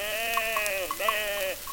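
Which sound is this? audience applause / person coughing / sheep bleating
sheep bleating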